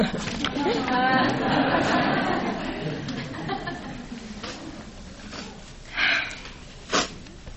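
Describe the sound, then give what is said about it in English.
Two short, sharp nose sniffs by a lecturer who has asked for a tissue, near the end, following a stretch of soft murmuring voices and light chuckling. “I'm going to be sniffing throughout the rest of this.”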